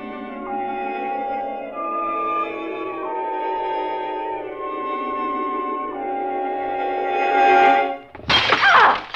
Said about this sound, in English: Oh, did I wake you? What is it? Oh, I'm sorry, dear. It was a vase. I knocked it off the mantle.